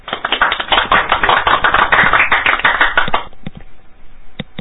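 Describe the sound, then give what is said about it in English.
A cheesy smattering of applause: dense overlapping claps for about three seconds, then thinning to a few scattered, isolated claps before it stops. No voices. “We brought you on to a cheesy smattering of applause.”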